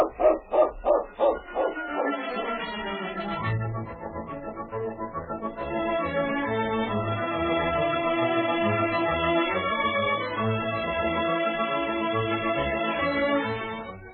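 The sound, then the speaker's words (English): A dog, King, lets out a quick run of about six loud barks, then falls silent as orchestral music rises and carries on to the end. “King agrees to that. That King dog.”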